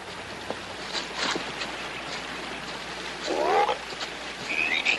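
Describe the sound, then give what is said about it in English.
A large frog gives one short, throaty croak partway through, fairly loud, over a steady background of running creek water, with a faint higher chirp near the end. “There's the granddaddy of all frogs.”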